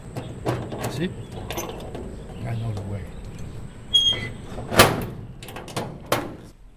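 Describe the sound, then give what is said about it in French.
Clicks and clunks of a code-locked door in a former prison building, now a museum, being unlocked and opened, a few sharp metallic taps building to a louder latch snap and swing, with faint murmuring in the background. “Normalement, cette porte n'est pas ouverte au public, mais moi j'ai le droit d'entrer, je connais le code.”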